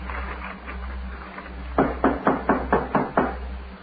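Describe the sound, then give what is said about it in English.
Six firm knocks on an unlocked wooden door in a quick, even rhythm, clear, over a low steady hum with faint background murmur before them. “The door ain't locked.”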